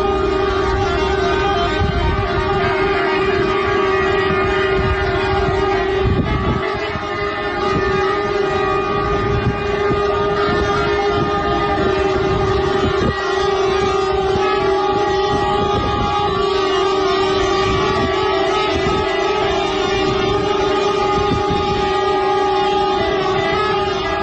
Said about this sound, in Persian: رانندگان در این اعتراض همانطور که شنیدید بوق کامیون‌های خود را به صدا درآوردند.